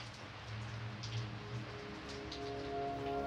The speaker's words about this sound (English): But what haunts me in the dead hours, hours so early, you feel like the only thing in existence is the rain.